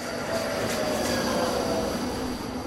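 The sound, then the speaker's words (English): A train rumbles steadily through the Mission light rail station in South Pasadena, with a broad continuous roar and faint high metallic whine from the wheels, loud, with no talking. “Well, we are here at the Mission Station in South Pasadena.”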